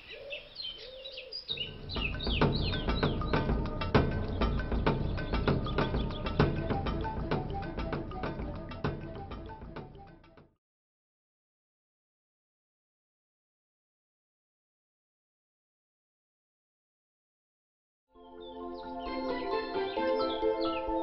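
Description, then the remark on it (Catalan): A great tit sings in a run of bright, repeated chirping notes for about ten seconds, falls silent for several seconds, then starts up again, clear. “Ens referim al ferrerico, també conegut amb el nom de primavera a Menorca i pica formatges a Eivissa.”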